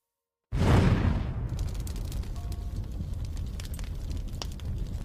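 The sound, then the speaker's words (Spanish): A sudden loud dynamite explosion, set off to blow open a safe, shakes the foundations of a house: after a moment of silence its deep boom rolls into a long rumbling roar with scattered crackles and debris-like clatter as it slowly settles. “Cuando una tremenda explosión sacudió los cimientos de la casa.”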